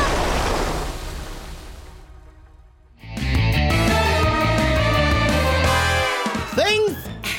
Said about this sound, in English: We have to zigzag against the current. It's too strong! The wind! The water! We have to try. We can't let the boat go over.